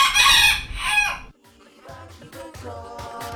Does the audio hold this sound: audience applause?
no